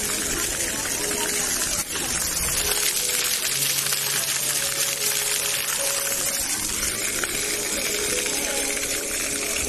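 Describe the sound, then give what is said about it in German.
A water play fountain at the Obertrave in Lübeck, Germany, splashes steadily, a dense, continuous rushing wash that fills the whole clip, with faint voices murmuring in the background. “Es hat mit Wasser zu tun und das ist hier das Wasserspiel an der Obertrave.”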